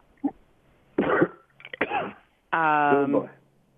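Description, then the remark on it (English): Dry coughing in a few separate bursts, followed by a longer, voiced clearing of the throat, with brief quiet gaps between each effort. “Now I'm sounding like a mother, but do you have a cough drop? I have one in my mouth.”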